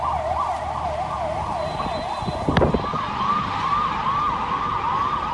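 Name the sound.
ambulance siren passing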